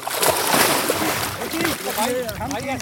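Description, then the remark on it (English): Water splashes and sloshes as people jump into and move around in a river in Pakistan on a hot day, having stopped their boat to swim, with voices calling and chattering over the steady churn of water. “And it's so hot, we stop and jump in.”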